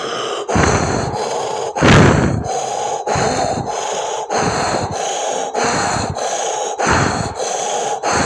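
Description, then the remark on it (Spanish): A person breathes vigorously during a guided breathing exercise: loud, forceful breaths repeat in a steady, rapid rhythm, each sharp inhale and exhale rushing into the microphone, with no talking over them. “Sigue respirando vigorosamente, eso es.”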